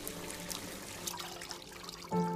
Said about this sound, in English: Water runs into the kitchen sink.